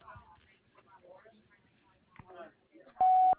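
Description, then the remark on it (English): A voice briefly gives a voicemail greeting, then a single loud, steady voicemail beep cuts in at the end, short, with a flat electronic tone. “Leave a message after the beep, and I'll get back to you.”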